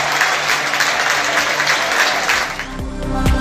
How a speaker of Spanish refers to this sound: Ese es el aplauso, la ovación tremenda, cerrada, que recibió el canterano del Sardinero de sus aficionados